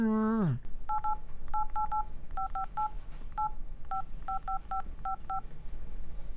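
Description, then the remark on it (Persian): A rapid run of about sixteen telephone keypad beeps as someone dials a phone number to make a call, short two-tone presses grouped in quick clusters after a brief falling tone, over a steady low background hum. “آه یک گپ سا باش که من برش یک تلفن بکنم.”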